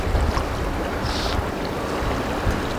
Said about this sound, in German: Träge schwappen die Wellen an die Kaimauer in Massawa.